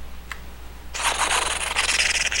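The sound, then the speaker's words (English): An improvised drum roll, made before announcing the game Puzzle Pirates: after a moment of quiet, a dense, rapid scratchy rubbing starts abruptly and runs steadily for about a second and a half, bright and hissy, with no voices. “Oh wait, I could have done a better drum roll.”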